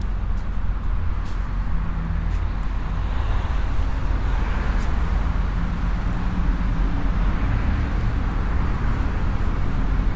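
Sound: road traffic passing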